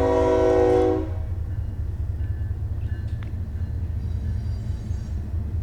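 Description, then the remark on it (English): A train horn blasts loudly for about a second, then cuts off, leaving the heavy, steady rumble of the train rolling past, with faint dinging bell tones in the background. “He's done blaring his horn. You're just going to hear the train the ding, go ding, by.”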